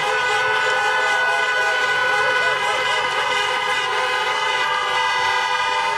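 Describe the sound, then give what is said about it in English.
Many car horns honk at once from a crowd at a US election night speech in 2020, a loud, continuous blare of overlapping tones, some held and some beeping, with a faint murmur of crowd noise underneath throughout. “Joe Biden gave his election night speech to a crowd of honking car horns there”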